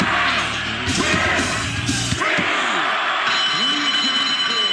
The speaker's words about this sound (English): Damn bell.